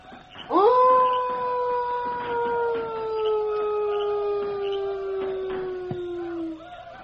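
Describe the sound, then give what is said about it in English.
A person imitates a wolf howl as a wolf call: one long, steady, wavering tone that rises sharply at the start, then slowly sinks in pitch over about six seconds, loud, with some faint background noise. “Me try wolf call.”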